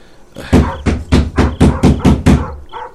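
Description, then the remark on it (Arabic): A neighbour knocks on a door, a run of about seven firm knocks evenly spaced in a steady rhythm, fairly loud, followed by a brief faint sound after they stop. “يداك مشغولتان بالطبق، اسمح لي بطرق الباب ثم أرحل.”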